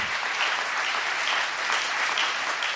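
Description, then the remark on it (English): Steady, dense applause from a crowd, many hands clapping at once in a bright, continuous wash of sound that holds an even loudness throughout with no pauses, given as a big hand clap for a bishop. “Let's give our bishop a big hand clap.”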